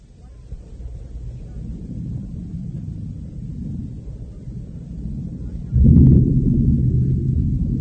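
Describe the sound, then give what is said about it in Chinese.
Stormy wind roars in a low, steady rumble under dark, cloud-covered skies with lightning, bringing rain, then a deep crash of thunder breaks in near the end and keeps rolling loudly as the storm builds. “马车备好时，天空黑云密布，闪电大风带来了雨。”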